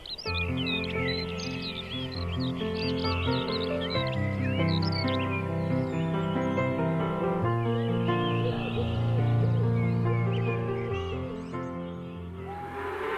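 A gentle instrumental song plays steadily at moderate volume, with sustained layered tones and a slow melody, while high bird chirps flutter over the top and fade near the end.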